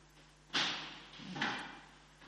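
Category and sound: household object, door being closed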